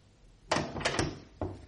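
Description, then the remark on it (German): The handle of Aunt Luisa's locked door is tried several times, rattling and thudding as the door jolts against its frame in quick, moderately loud bursts, with no one speaking. “Tante Luisas Tür ist tatsächlich zugesperrt”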